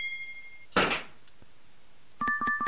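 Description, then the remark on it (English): A champagne cork pops once with a sharp burst and a brief fizzy hiss, preceded by a thin steady electronic tone and followed by a bright, ringing chime. “Sound is champagne cork popping.”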